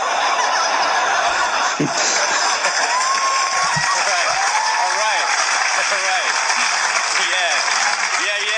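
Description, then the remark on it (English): Sustained audience applause at a comedy recording, a dense steady wash of clapping with scattered laughter and a few voices rising over it, loud and continuous throughout. “My mom loves those applause breaks.”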